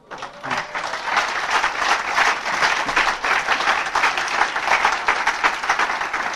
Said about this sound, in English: You know what you're applauding for right there? You are applauding for the 12 traditions.